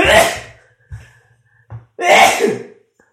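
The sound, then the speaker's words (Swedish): Two loud sneezes about two seconds apart, each a sharp explosive burst, with a few faint breaths and small noises in the gap between them. “Jag måste nysa.”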